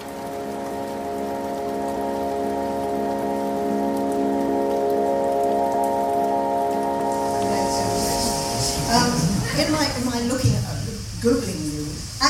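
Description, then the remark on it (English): Steady evening rain patters continuously in Cape Town, at the Book Lounge, beneath a sustained musical drone, then a voice begins speaking over the soft, even wash of falling rain toward the end. “The two gathered on a rainy evening in the book lounge in Cape Town for an intimate conversation about her brilliant debut novel.”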